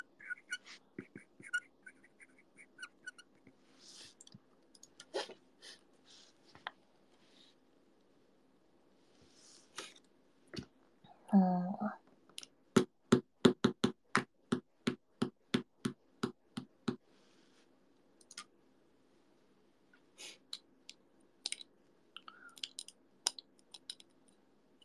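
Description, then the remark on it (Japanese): A pen squeaks across a writing surface in short scattered strokes, then a rapid, evenly spaced run of about a dozen sharp squeaks midway before slowing to sparse ones again. No one speaks. “てかこのキュッキュッキュッって音今更だけどキモくない？”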